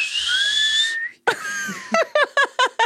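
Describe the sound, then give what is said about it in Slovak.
A person whistles a steady, rising, breathy tone imitating a kettle as its water heats, followed by airy hissing and a quick series of five short, rhythmic puffs of breath. “To je čajník, vieš? Keď sa ti zohrieva voda.”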